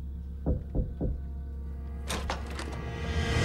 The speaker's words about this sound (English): He opens the door.